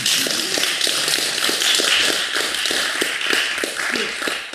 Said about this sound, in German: aber ich mag trotzdem applaudieren, weil es mega cool ist für das Engagement, was es hier in dieser Region gibt. Können wir zusammen klatschen?